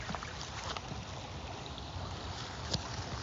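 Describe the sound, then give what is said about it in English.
A steady, unbroken rush of flowing creek water in a small wooded area, the Kingfisher Natural Area in Seattle, moderately loud, with a faint breezy hiss and a couple of small splashes near the end. “It's like so quiet. And you can just listen to the creek all day.”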